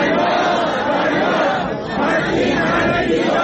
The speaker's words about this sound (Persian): روز یکشنبه در شیراز هم معلمان فریاد دادخواهی سر دادند.